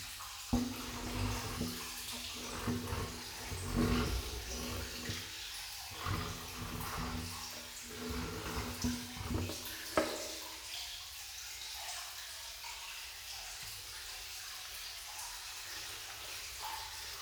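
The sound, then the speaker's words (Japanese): Wet squishing and frothing as soap is worked briskly into a thick, sheep-like lather for washing the body, coming in irregular bursts before settling into softer, quieter rubbing. No one speaks. “羊さんみたいな泡は、ほら、こんなにいっぱいできましたわ。”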